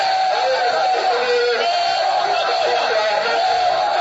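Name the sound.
crowd shouting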